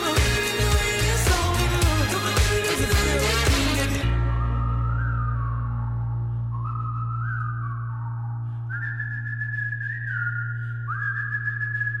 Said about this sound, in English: Is that how it works? I don't know. I'm not that good at whistling. Mind you, there was about 50 of him whistling there, wasn't there? If it was just a solo one, it would sound quite